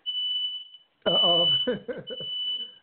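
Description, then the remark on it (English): A smoke alarm sounds indoors in a house, set off by burning food, with a steady, shrill high-pitched tone that keeps going throughout, while a man's voice talks over it partway through. “Is that alarm? Fire alarm? That's here in the house.”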